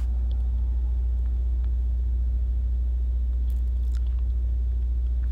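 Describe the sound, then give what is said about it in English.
A bus's large idling engine rumbles steadily behind a parked van, a deep continuous low drone with faint clicks and rattles over it and no one talking. “The van is lit up right now by the bus that's behind me.”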